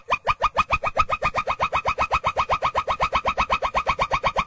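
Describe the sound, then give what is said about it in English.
A pileated gibbon gives a fast, steady string of bubbling, hooting notes, around six or seven per second, each with strong harmonics. The loud, even pulsing continues throughout with no talking. “I'm sorry, that is a pileated gibbon.”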